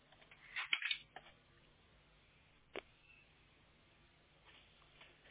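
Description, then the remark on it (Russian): A brief scuffle of plastic handling, then a moment later a single sharp click as a cable plug that had been pulled out is pushed back into the computer socket until it clicks. “И теперь обратно можно вставить до щелчка.”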